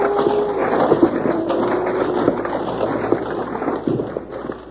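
A landslide of rocks tumbles down a hill in a steady, dense roar, scattered sharp clatters breaking through the rumble for several seconds, with no voices.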